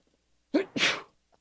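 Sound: sneeze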